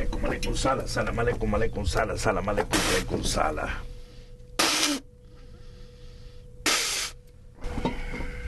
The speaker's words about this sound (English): And we will spray rum and pronounce special words in Mayombe or Congo language.